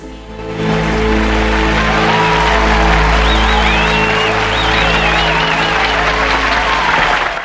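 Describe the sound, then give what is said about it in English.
Sustained audience applause after a couple's dance performance on stage, a dense wash of many hands clapping that stays loud and steady for several seconds, with faint whistles and cheers rising above it and music tones underneath. “Tony's ma smiles proudly as she claps.”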